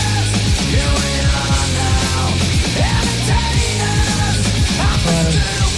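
A loud burst of grunge rock fills every second, with heavy distorted guitars, pounding drums and a raw, shouted-sounding vocal line over a dense, steady wall of sound.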